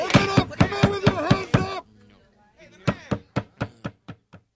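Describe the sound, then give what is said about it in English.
A rapid burst of heavy pounding on a door, about eight loud thuds, then a brief pause before another round of blows that gradually weaken and fade. “There's someone pounding at the door.”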